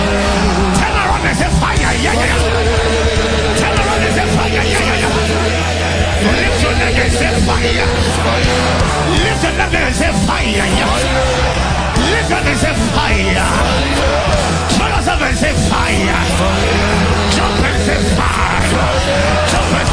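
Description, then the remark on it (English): A large audience yells together in a loud, continuous roar of overlapping voices, shouting the word "fire" again and again with hands lifted for the full stretch, dense with no quiet gaps. “Scream and say fire. Lift your hand and say fire.”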